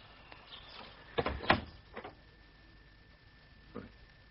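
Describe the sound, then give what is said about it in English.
A broken, unlocked front door is shoved open with a cluster of wooden clunks and rattles, followed after a pause by one softer knock; no one speaks. “Doesn't even bother to lock his front door now.”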